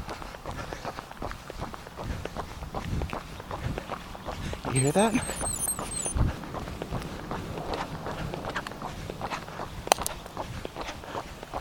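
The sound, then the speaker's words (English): Steady, quick footfalls of running shoes with inserts slapping pavement in a continuous rhythm as a person runs, with a person briefly speaking over the steps partway through. “And now, when I run, I'm hearing a little extra padding, like maybe something's loose.”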